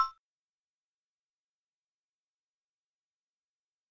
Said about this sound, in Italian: Ti ricordi come lo fa? Dimmelo dopo il bip.